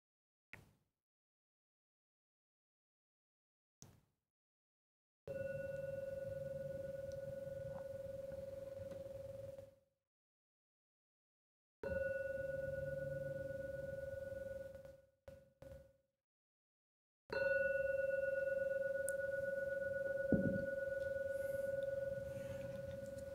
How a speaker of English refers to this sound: So I'll now ring the gong 3 times as usual. And at the 3rd ringing of the gong, please open your eyes to come out from the meditation.